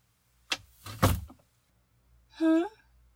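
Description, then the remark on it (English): A door swings and shuts with a solid thump, followed a moment later by a short creaking or squeaking sound, likely the latch or hinge settling. “Oh, I just closed the door so we'd have a little more privacy.”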